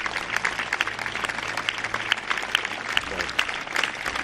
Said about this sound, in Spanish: Lógicamente, si hablamos de homenaje y sanitarios, el acto tenía que acabar con un fuerte aplauso.